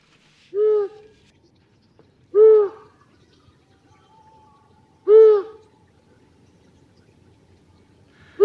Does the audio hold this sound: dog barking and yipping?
no